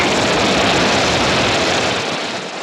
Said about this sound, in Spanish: Y allá vuelan mis aviones a vencer a mis enemigos en el mar.